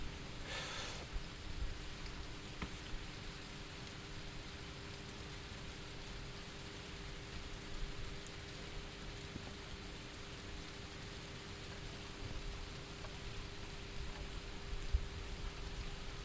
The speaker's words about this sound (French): Bon, pour l'instant, il pleut. Il pleut berger. Ça va faire du bien d'ailleurs, un peu de fraîcheur là.